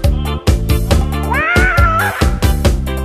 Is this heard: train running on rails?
no